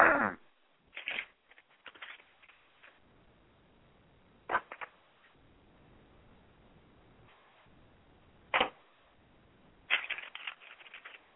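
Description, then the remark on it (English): A deck of tarot cards being shuffled before a card is pulled: several short, crisp riffling bursts separated by quiet pauses, with faint soft handling noises in between and no talking. “Then we're going to sit here and shuffle. I usually shuffle about three times.”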